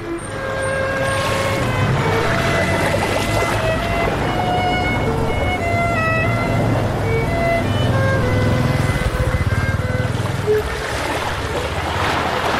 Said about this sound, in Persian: اینجا شهر ساحلی ونکوور، بندر ونکوور.